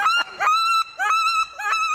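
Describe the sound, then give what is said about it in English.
A wood duck call blown in a quick series of four or five loud, rising squeals, each a reedy, whistling "oo-eek" with short gaps between, with no talking. “And this is a wood duck.”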